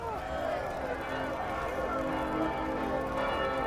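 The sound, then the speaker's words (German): Bells clang steadily and insistently in an alarm peal as a theatre catches fire in icy cold weather, their overlapping tones ringing loud and unbroken, with a murmur of hurried activity beneath. “Die Glocken fangen an zu läuten.”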